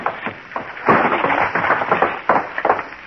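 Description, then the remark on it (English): A loud gunshot from inside Ralph's locked room, where a man was shot while sitting in a chair, bursts out amid a rough string of sharp cracks and bangs, with irregular impacts scattered across a few seconds of noisy, muffled clatter. “Shot while he was sitting in this chair here.”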